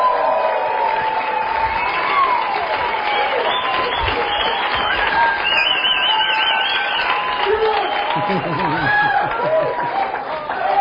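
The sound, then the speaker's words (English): A large audience in attendance applauds and cheers steadily for about eleven seconds for listeners who reached CD number 5, a dense wash of clapping with whoops and shouts rising over it, loud and sustained throughout. “So if you're listening to this right now, you're on CD number 5, and everybody in attendance here, give them a round of applause for getting to CD number 5.”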